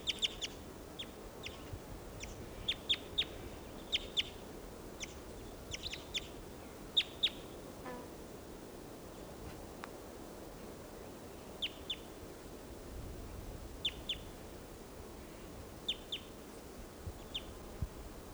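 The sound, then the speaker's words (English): A wild bird calls in flight in short, high-pitched chirps, delivered in quick clusters of two or three and repeated at irregular intervals over a low, steady background rumble. No one speaks. “And there's that one, that wild one that just called, giving funny song phrases in flight.”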